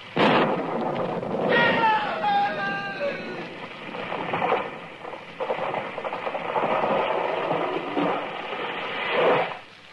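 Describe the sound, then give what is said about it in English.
A loud, sustained crash of thunder as lightning strikes a tree, with a crackling, splintering burst near the start, rolling on as a heavy roar for several seconds before fading. “It was lightning. It struck the tree.”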